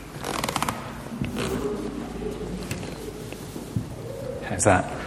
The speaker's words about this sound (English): There's a creak.